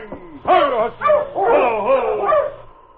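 A sled dog team, halted by Sergeant Preston in front of Molly Bay's trading post in Caribou Ridge in the early morning, barks and yelps in several overlapping bursts, the high, wavering cries rising and falling in pitch. The barking is loud and continuous with no talking.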